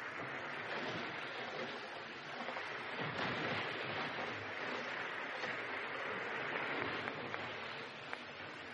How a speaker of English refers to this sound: Listen. No. Nothing but the wind.